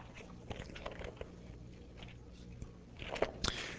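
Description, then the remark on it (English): Pages of a Bible being turned to Exodus 31: a series of crisp, irregular paper rustles and crackles, quiet at first, with a louder flurry of crinkling toward the end. No one speaks. “And so, we read here, as I keep turning pages, here we go, one more.”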